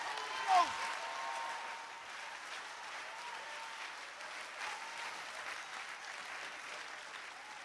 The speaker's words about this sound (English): Now in the balcony, clap your hands to the Lord if you can.